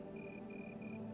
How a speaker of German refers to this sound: Zwischen den lilafarbenen Lavendelsträuchern hörst du eine Grille zirpen.